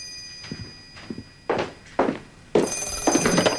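telephone ringing

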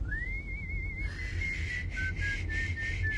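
person whistling a tune

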